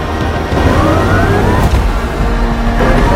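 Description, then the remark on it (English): A loud, steady electric whine rises in pitch as the central electric motor and rear suction fans of a quad-motor, 2,000-horsepower electric hypercar spin up, layered with a low mechanical rumble and whooshing air, with no talking. “You can also see the tunnels that feed the fans, and you can see the electric motor spinning up in the middle, and this is what it would sound like.”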